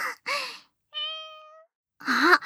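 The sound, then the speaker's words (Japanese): A woman wearing cat ears and playing a cat imitates a cat's meow, holding one steady, drawn-out tone, framed by two breathy, whispery vocal sounds before and after, fairly soft. “猫耳をつけて私が猫ちゃんになるの。”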